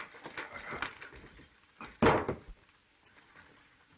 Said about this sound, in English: What was that noise? Why, Jim showing me his gun and it dropped out of his hand.